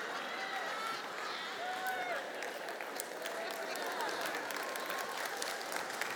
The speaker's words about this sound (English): That's a bunch of love-starved women clapping right now, I tell you what.